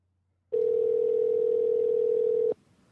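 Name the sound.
telephone dial tone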